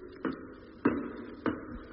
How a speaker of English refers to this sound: Now climbing ladder.